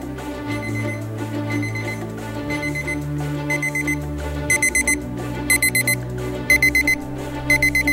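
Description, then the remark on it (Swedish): An alarm clock, received as a 40th birthday present, goes off, playing a steady electronic melody that soon gains loud, shrill beeping bursts repeating in a regular rhythm over the tune, with no voices. “Den här veckan klockan fick jag när jag fyllde 40.”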